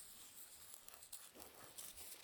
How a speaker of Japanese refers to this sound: まあ、紙袋のいい音するもんね。